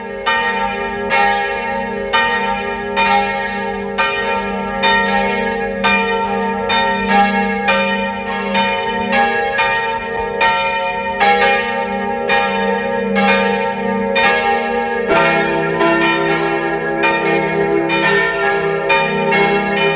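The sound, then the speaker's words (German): Several large bells of the parish church in Mistelbach, Lower Austria, peal together at 12 noon in a steady, overlapping rhythm, their rich ringing tones layered and sustained, loud and continuous throughout with no voices. “Es ist 12 Uhr. Sie hören die Glocken der Pfarrkirche Mistelbach, Niederösterreich.”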